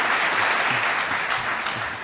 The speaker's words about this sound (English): And clap for yourselves. Clap for yourselves.